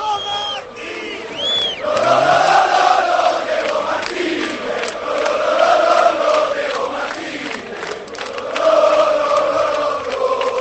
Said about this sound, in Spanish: Y les voy a pedir una cosa. Os escucha Diego Martínez. Que griten como antes habéis gritado a favor del entrenador, ¿eh? 3 segundos y esto va a retumbar.